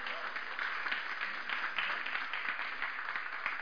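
A church audience at the Ashwood Centre breaks into steady applause for the morning's speaker, a dense wash of many hands clapping at an even, sustained loudness for several seconds without letting up.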